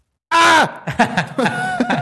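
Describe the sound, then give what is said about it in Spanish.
A man lets out one loud, strained shout that holds steady and then drops in pitch as it cuts off, followed by several shorter, rougher vocal bursts. “Ahí quedó para todos ustedes el grito.”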